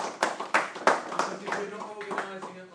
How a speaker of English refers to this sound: As somebody's half clapping back there. Thank you. Oh, thank you.